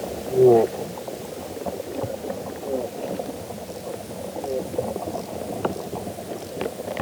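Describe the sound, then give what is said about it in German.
Soil creatures feeding underground: a dense, continuous texture of soft crackling, smacking and scattered sharp clicks over a low murmur, with a brief louder gurgling burst near the start and no voices. “Also das ist ein richtiges Gelage, was da stattfindet, mit Schmatzen und Grunzen und Knistern und Knacken.”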